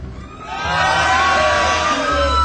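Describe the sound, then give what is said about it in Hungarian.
A loud crowd in Baja cheers and shouts together, many voices whooping and yelling at once in a sustained, building roar that swells after a moment and holds steady. “kedves népem, itt Baján hatalmas örömhangzással közöljük az ország hallgatóival, hogy itt vagyunk.”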